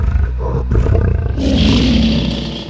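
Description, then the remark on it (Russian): A lion roars loudly, a deep, rumbling growl that swells into a harsh, sustained bellow lasting a few seconds, with no talking. “Рев льва – один из самых мощных звуков живой природы.”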